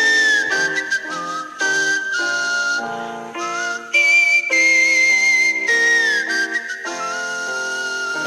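A woman whistles a continuous, shifting melody for several seconds, the notes rising and falling in short phrases. It is fairly loud, with no talking.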